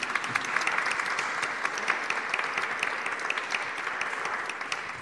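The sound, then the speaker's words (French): A crowd applauds four authors at the end of a talk, many hands clapping in a dense, even patter that holds at a fairly loud level throughout, with no voices breaking through. “Je crois qu'on peut applaudir nos quatre auteurs.”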